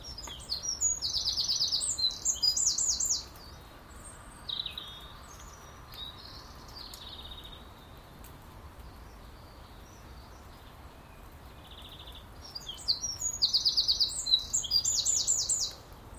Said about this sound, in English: Piercing, isn't it? It's piercing, that call, that bird song. Maybe I should capture some of that and use it as my alarm call in the morning. That would get me up in bed.